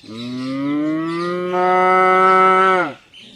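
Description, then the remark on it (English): A single long, loud cow moo, holding steady for nearly three seconds before dropping off abruptly, with no talking. “Little black and white and red and yellow cows are moving along her banks like a big necklace and going.”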